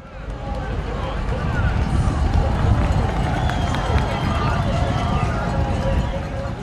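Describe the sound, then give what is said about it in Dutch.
A huge crowd of 38,000 fans at the cyclocross world championship in Hogeheide roars and cheers nonstop, a dense, loud wash of shouting voices with scattered whistles and higher yells rising above the din. “Zo klinken 38.000 uitzinnige fans die naar het wereldkampioenschap veldrijden hebben gekeken in Hogeheide.”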